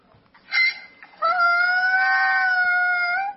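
A child's voice imitates a donkey's hee-haw: a short, high 'ee' followed by a long, steady, drawn-out 'aah' that holds its pitch for about two seconds, with nothing else sounding.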